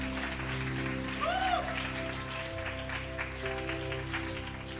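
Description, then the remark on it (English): An audience applauds the Lord with steady, dense hand clapping that fills the whole stretch, while sustained keyboard-like tones hum underneath and a brief rising whoop cuts through early on. “Yeah, you can give the Lord a hand clap.”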